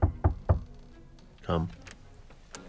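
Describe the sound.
Three quick, solid knocks on a wooden door shortly before midnight, in an even rhythm, fairly loud, followed after a short pause by a brief voice.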